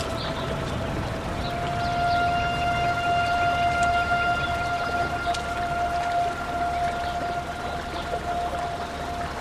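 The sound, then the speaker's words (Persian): Steady, continuous rush of flowing river water beside a tree in an open plain fills the scene at a fairly even level, with a sustained high tone ringing over it throughout. “حمیدرضا زیر درخت کنار رودخونه نشسته.”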